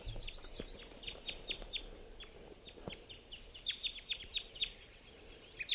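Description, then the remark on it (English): Several birds from a big flock flying into mist nets give quick, high-pitched chirps in two loose bursts, sharp repeated notes over a soft, steady background hiss. No one speaks. “Now the birds are really hitting the nets. Big flock sort of drove over to the net.”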